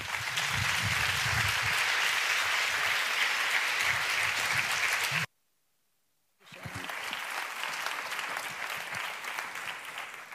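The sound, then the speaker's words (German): Loud, sustained applause from an audience in Graz, a dense wash of clapping that cuts out abruptly for about a second, then resumes at a slightly lower level and continues steadily. “Day aufs Podium und euch, Sie, um einen herzlichen Applaus.”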